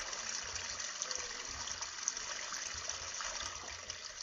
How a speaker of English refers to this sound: As we walk along, we hear the sound of water.